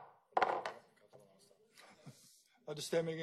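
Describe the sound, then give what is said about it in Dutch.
A gavel raps sharply on wood to confirm the adoption of an amended proposal after a vote: two quick knocks close together, followed by quieter murmuring and a person beginning to speak. “Als we die zo vast kunnen stellen, dan denk ik dat ik dat ook een keer doe met die hele mooie hamer.”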